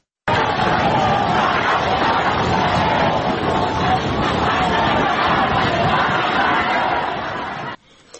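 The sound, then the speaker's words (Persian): A large outdoor crowd at a protest in Toronto, Canada, in support of protesters in Iran, shouts and chants continuously, their massed voices blurred by a steady roar of blizzard wind during heavy snowfall that keeps the sound loud and rough until it cuts off near the end. “تو همین صدا هم صدای کولاک و بورانه، یعنی صدا خیلی صاف نیست به دلیل وضعیت خیلی بد هواست.”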